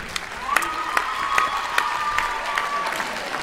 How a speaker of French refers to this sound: On l'applaudit.